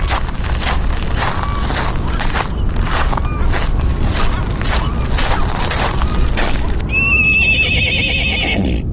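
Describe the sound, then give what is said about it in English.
A pony lets out a high, quavering whinny toward the end, rising above a steady rumbling background with faint hoof clops running throughout. “Ben said he saw a pony.”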